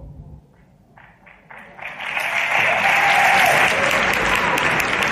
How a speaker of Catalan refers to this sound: Jo crec que s'ha d'aplaudir molt per tots.